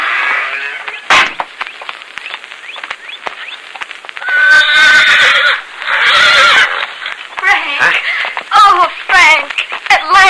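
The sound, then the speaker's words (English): A horse whinnies loudly, several drawn-out, quavering neighs in a row, with sharp hoof clops and stamping scattered between them, as it waits outside the main gate of a prison. “There's someone waiting over there with a horse for you.”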